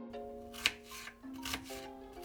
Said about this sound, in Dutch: Nu snijdt ze uien.